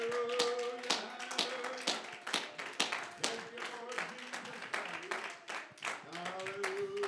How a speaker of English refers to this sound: Give him a hand clap. Give him a hand clap and pray.